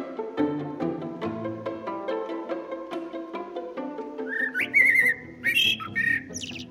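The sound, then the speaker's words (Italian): Blackbirds sing at dawn, at 4:30, bright fluting whistles and warbled phrases rising clearly over a steady run of soft tonal notes, loudest in the second half. “Alle 4:30 i merli intentano già un obad,”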